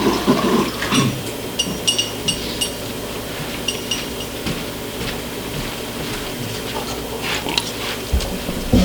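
Glass clinks and clatters several times as someone gets a glass of water, then water is poured, with more light clinking near the end. No one speaks.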